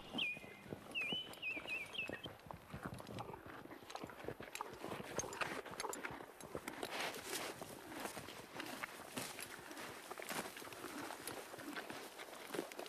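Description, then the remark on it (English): Steady clip-clop of horse hooves plodding along at an even pace as a horse pulls a wagon, with a bird chirping briefly near the start. No one speaks. “Or the wagon, because there are no trains weren't invented yet. So I'll get onto the wagon.”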